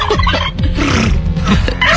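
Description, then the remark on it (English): A loud chorus of wild turkeys gobbling along the eastern shore of San Francisco Bay, California, rapid warbling calls overlapping and rattling continuously for two seconds with no pauses. “It sounds like somebody's trying to start a lawnmower.”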